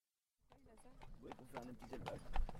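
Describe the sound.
Horse hooves clip-clop in a steady, quick rhythm, fairly loud, starting after a brief silence, with voices murmuring underneath.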